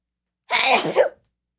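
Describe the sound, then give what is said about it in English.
A single loud, explosive sneeze bursts out, lasting well under a second, with silence before and after. “Oh my god, I'm gonna sneeze.”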